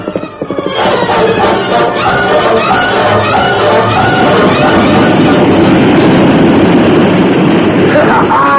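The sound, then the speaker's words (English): A torrent of floodwater from a hole put in a dam roars nonstop, 15 feet of solid water racing down the valley: a loud, dense rushing surge with deep rumbling underneath that swells quickly in the first second and holds steady to the end. “15 feet of solid water. Tons and tons of weight racing down the valley.”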